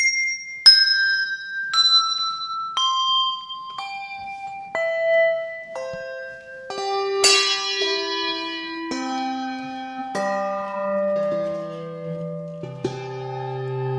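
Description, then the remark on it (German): Handbells with white and black handles, matching a piano's white and black keys, ring one at a time in a descending scale from the top. Each clear struck tone overlaps the last as the pitch steps steadily lower, and the later bells are deeper and fuller. The lowest bell weighs about 5 kilos. No voices. “Ähnlich wie ein Klavier, dass es Glocken gibt mit weissem und mit schwarzem Henkel.”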